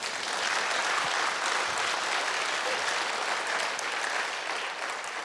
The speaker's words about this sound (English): We have some caterers out here, Silver Linings Creamery. We have Ian, Jen, Tasha, and Cammie. Clap for them.